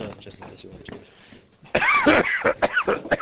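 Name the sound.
coughing and throat clearing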